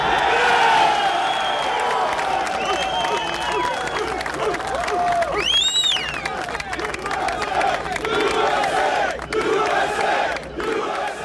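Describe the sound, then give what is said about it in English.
A large crowd chants "USA" and shouts together in response to President Bush, a loud, dense roar of many voices with rising cries and whistles breaking through, sustained without pause throughout. “When's the last time you heard chants of USA?”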